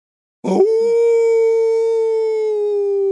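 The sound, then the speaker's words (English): A single long, steady howl begins after a short breathy onset and holds one loud, unwavering pitch for nearly three seconds, a human voice imitating an eerie demon dog howl as a ghost story sound effect. “Demon dog howl.”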